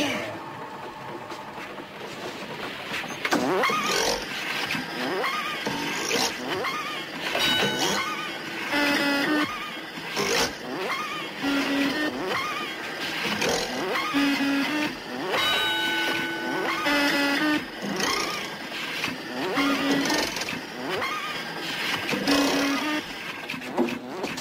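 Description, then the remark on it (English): A secret candy factory machine that makes everlasting gobstoppers clanks and whirs steadily, with rhythmic mechanical cycles repeating every few seconds, punctuated by hisses, rattles and short tonal beeps over a dense, loud churn. “This is the most secret machine in my entire factory.”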